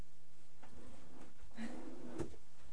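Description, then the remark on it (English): A drawer slides along its runners with a brief wooden scrape, ending in a soft knock as it stops, quiet against a faint background hum. “We do have to put them in that drawer. So I can put them in that drawer.”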